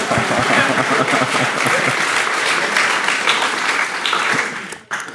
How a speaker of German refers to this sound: Applaus für das Nock.